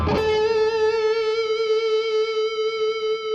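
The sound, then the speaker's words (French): A distorted electric guitar, playing a a band-style pentatonic passage with bends, holds a single loud, sustained note after a sharp pick attack, ringing steadily with a slight wavering vibrato and no other sounds. “Et on va venir faire un petit pataquès pentatonique avec des bends complètement faux.”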